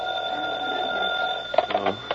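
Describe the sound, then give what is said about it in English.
An old-fashioned telephone in a hall rings at 3 o'clock in the morning in a sustained metallic trill, breaking into a few short, uneven bursts near the end. It is fairly loud, with no one talking. “3 o'clock in the morning and the phone rings.”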